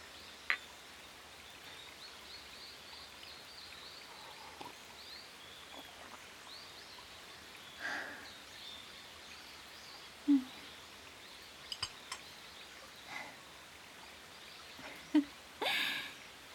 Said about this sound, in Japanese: 風が心地いいわ。小鳥のさえずり、小川のせせらぎ、木々のざわめき、ゆったりとしたお茶会にはぴったりだわ。ほんと、いい場所ね。